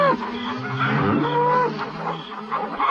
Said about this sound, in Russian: И теперь они громко и требовательно мычали.